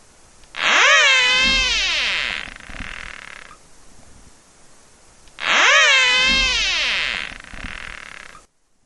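Two loud, drawn-out whistles from a 2-inch-long caterpillar, each lasting about three seconds, with a buzzy, harmonic-rich tone that dips and rises in pitch, separated by a short quiet pause; such whistles measure over 80 decibels at 5 centimeters.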